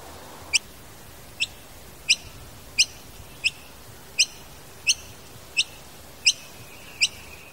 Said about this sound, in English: As it happens, the school grounds also receive plenty of visits from a grey bird known as the noisy miner.